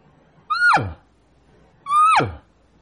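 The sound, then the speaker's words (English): A voice imitates a cow call twice, each a short, fairly loud, nasal note that holds a steady pitch and then slides sharply downward, with a brief pause between the two calls. “Well, like I said, I think a cow call.”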